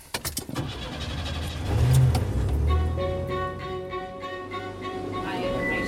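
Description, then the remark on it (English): A powder blue GMC Jimmy SUV engine cranks with a few quick bursts, catches, and rises into a loud rev before settling into a steady idle with a faint whine. “At the other end, Carl starts his powder blue GMC Jimmy.”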